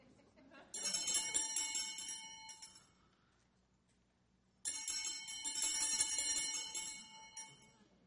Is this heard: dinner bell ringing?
yes